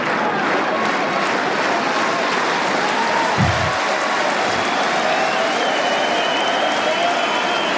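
A large crowd at a tennis match cheers and applauds loudly and steadily, a dense wash of clapping and shouting that fills the whole stretch without pause, with a couple of low thumps partway through.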